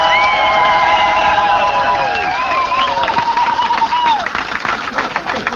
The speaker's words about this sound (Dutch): Maar ze worden betaald met jullie applaus. Nog één keer het applaus voor onze vrijwilligers die dit mogelijk maken.